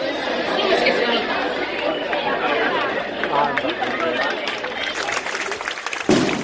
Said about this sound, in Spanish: Con estos aplausos recibían a Ugarte entre gritos en favor de la liberación de los presos de ETA, mientras sonaban cohetes y se encendían bengalas en honor del secuestrador de Ortega Lara.